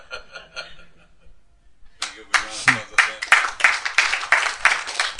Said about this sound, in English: Even clapping hands like that, it's Western culture. In kirtan.